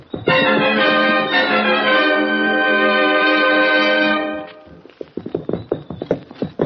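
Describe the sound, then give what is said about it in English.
A loud, sustained musical chord holds for several seconds, then fades into a brisk run of hollow clip-clopping hooves as horses are ridden around to the back entrance of a blacksmith shop at night, the uneven beats tapping on without any talk. “Let's ride around the back entrance, see if we can get him up.”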